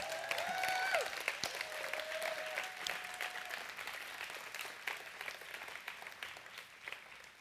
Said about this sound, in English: Just give him a big clap offering.